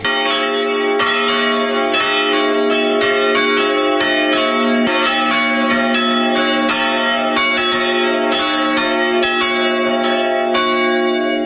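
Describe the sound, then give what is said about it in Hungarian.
Three swinging church bells ring together in a continuous, overlapping peal, with strikes arriving about every half second to second. The ringing is loud and rich in sustained overtones, with no voices. The bell is historic, the oldest in the area. “Akkor mindjárt megszólal a harang. Mind a hármat indítsa? Igen, mind a hármat.”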